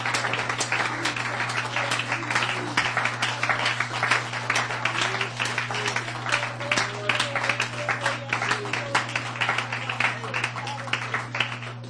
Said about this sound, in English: And right now I think it would be in order if you would honor the Lord and honor your leader for a hand clap of praise unto God. Hallelujah.